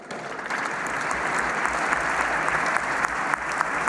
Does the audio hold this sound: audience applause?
yes